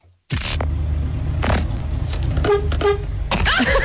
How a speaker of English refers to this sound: He gave the lion a little beep. I wonder if the lion ever heard a beep. No, he didn't. Like, it's a friendly little beep.